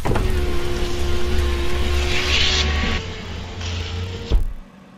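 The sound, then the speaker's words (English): A flight simulator aircraft's engines drone steadily with a high whine at the parking position, drop in level partway through as they are turned off, and cut off with a brief clunk near the end, leaving near silence. “Turn off the engines with end and home.”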